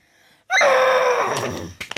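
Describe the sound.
A person imitates a horse's whinny with one loud, shrill, wavering voiced cry that falls in pitch, followed by a few short breathy puffs.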